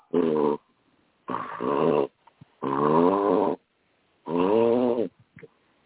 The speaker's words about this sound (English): Yeah, no, that was my dog. Oh, Okay. All right. I've got a French bulldog who's sitting here snorting.